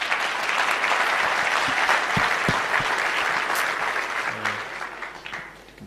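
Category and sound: crowd, round of applause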